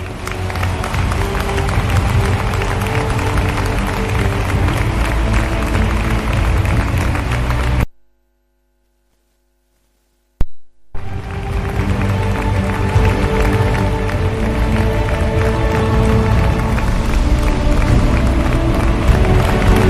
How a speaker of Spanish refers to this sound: pero quiero dar un homenaje especial a la Academia General del Aire de San Javier y sus tres pilotos fallecidos, a los que como homenaje os pido un fuerte y afectuoso aplauso.